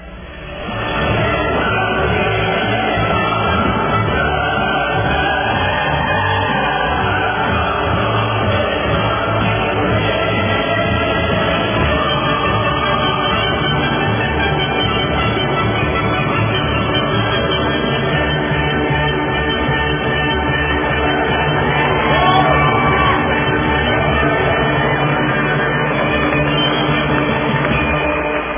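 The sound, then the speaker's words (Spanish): A large audience applauds Pope Francis during his visit, steadily for about half a minute, a dense, continuous wash of clapping mixed with crowd noise that stays loud without pausing. “Vamos a darle los aplausos, ¿verdad?, al Papa Francisco.”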